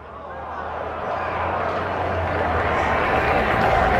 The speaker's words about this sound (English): Nice catch made by a fan down there for the souvenir. Gets a rousing cheer from the folks around him.